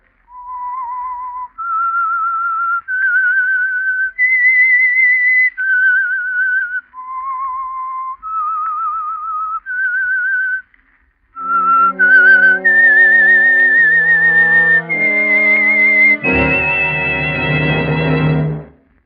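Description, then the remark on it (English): A lone whistler carries a slow, haunting melody of sustained pure notes, joined partway through by a dramatic swell of orchestral chords that builds underneath the tune; the signature whistle introducing the Household Finance Corporation program The Whistler. “That whistle is your invitation to listen to the Household Finance Corporation program, The Whistler.”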